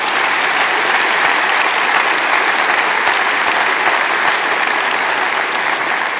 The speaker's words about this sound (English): President Oaks, yeah, that deserves an applause.